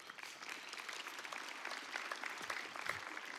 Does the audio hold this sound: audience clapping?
yes